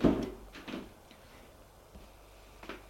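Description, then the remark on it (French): A house door thuds shut at the start as a girl closes it after a visitor enters, followed by a few softer knocks and rattles, then near quiet with a faint click toward the end. No one speaks. “La fille ferme la porte.”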